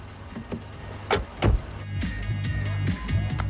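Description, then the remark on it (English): A taxi carrying Dom and Brian pulls up outside a house where several tuned cars are parked, its engine idling in a steady low rumble, with a few sharp clunks like doors or windows moving around the midpoint. “Dom and Brian arrive in a taxi outside a house where several tuned cars are parked.”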